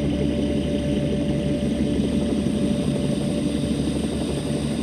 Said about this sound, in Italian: Riaccendo le turbine e seguito ad accelerare mentre mi avvicino alla valle.